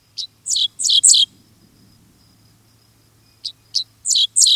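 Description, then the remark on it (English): A dickcissel on a tallgrass prairie sings rough, buzzy notes in two bursts: four clipped chirps, a pause, then five more, loud over a faint low hum. “A dixisal offers its rough notes.”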